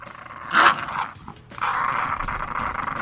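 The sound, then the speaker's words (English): Dogs growl and snarl, a sharp burst near the start followed by a sustained, rumbling growl that continues to the end, with no talking. “There's a lot of dogs.”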